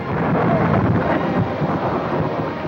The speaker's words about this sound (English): On a dirt road, the Baxter's cart whips around a bend toward their cabin. Ori holds her hat while Penny drives Caesar through fierce wind and rain.